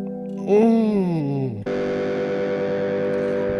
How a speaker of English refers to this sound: This one I remember kind of liking. This is the Terra Echo lead. You can do kind of long, drawn out, thoughtful phrases.